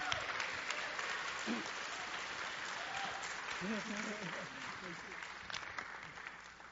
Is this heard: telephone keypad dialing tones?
no